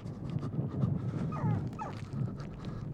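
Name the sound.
dog whimpering and panting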